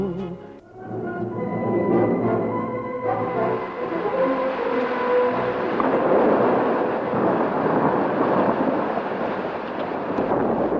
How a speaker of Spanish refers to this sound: Noche del 25 de septiembre, noche trágica para Barcelona y su provincia. Tormentas y trombas de agua cayeron sobre el Vallés. Los ríos y los torrentes se desbordaron. Los campos quedaron inundados. Los puentes cedieron al impulso de las aguas.